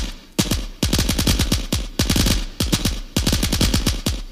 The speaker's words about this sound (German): Ich schoss zurück.